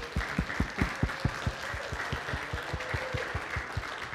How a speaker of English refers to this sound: So I'd like to give a round of applause.